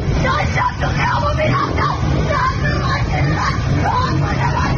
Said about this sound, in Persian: روزی که با اعتصاب کسبه لاله‌زار و شعارهایشان آغاز شد. و با فریادهای خشمگین زنان بر ماموران یگان ویژه ادامه پیدا کرد.